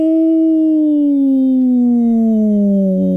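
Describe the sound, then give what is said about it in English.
A person imitates a whale call, like Dory talking to the whale in Finding Nemo, with one long, loud, drawn-out moaning tone that slowly slides lower in pitch for about three seconds, alone. “This is what's going to make everybody go, ooh, oh, kind of like, you know, Finding Nemo, the you know, when Dory was trying to talk to the whale.”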